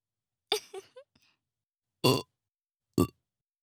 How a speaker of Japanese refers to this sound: ゲップのおかげでもっともっとあなたを好きになれた気がする。大げさじゃないよ。